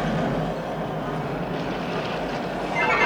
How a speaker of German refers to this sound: Hört ihr, wie die Balken knarren? Und seht ihr, wie sich die Masten biegen?